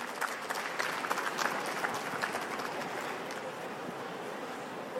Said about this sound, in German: Einmal Applaus.